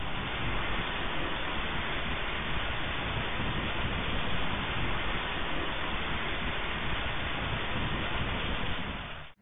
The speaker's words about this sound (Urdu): موسم بھی مدنی ہے، ہو سکتا ہے بارش کی آواز بھی آپ کو آ رہی ہو.